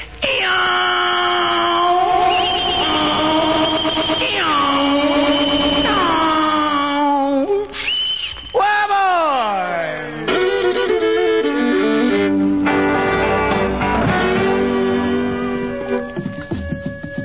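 A loud, drawn-out yell with wavering, swooping pitch, rising and falling in several long sustained cries, some breaking into higher wails, with no talking.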